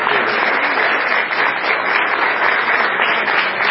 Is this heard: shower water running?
no